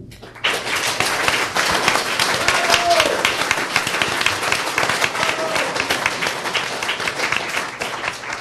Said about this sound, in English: Thank you. I usually get better applause before I start